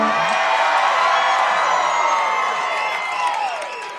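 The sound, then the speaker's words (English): A studio audience cheers loudly, a dense wall of whoops and shouts that holds steady for about four seconds before easing slightly at the end, with no talking over it. “Let me hear you cheer really loud.”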